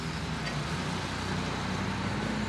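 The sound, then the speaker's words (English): Green military National Guard trucks rumble outside Hoboken's City Hall during flooding, some carrying supplies. A steady low engine drone with broad road noise, moderately loud and continuous, as the vehicles idle and move, with no voices. “The trucks come and go.”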